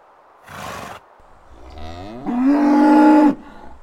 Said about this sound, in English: I heard another noise. What was it? It's not okay, Claudia. It's a bull!